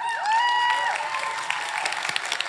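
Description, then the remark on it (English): An audience claps steadily, a dense wash of many hands with a few sharper claps toward the end, while sustained keyboard tones hold and glide underneath. “Y'all clap for that girl.”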